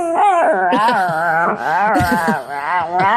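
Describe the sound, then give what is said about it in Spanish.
A chihuahua whimpers and howls beside its owner's face in the morning, a continuous run of high, wavering, sliding whines that rise and fall in pitch for about three seconds, loud and without talking over it. “maneras de levantarse por la mañana cuando te haces el perezoso y llega tu perro, uh-huh, que es un chihuahua, se te coloca aquí al lado de la cara, te oprime, y para que tú te levantes a llevarle de paseo, sí, hace esto,”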